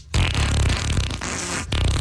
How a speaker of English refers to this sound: Bringing you the best fart sound effects of yesterday, today, and tomorrow.